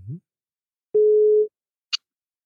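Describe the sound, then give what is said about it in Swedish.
A telephone ringing tone from an outgoing call sounds as one loud, steady mid-pitched beep lasting about half a second. A brief voice fragment comes before it, and a short high click follows. “Ring, ring. Nu ringer du då.”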